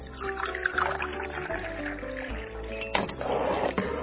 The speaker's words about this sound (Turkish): Tencereye 6 bardak su koyalım ve pirinçleri de koyup haşlayalım.